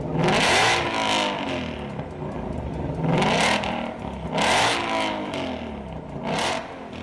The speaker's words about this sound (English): That rumble, there's no mistaking it. That's a crossplane V8.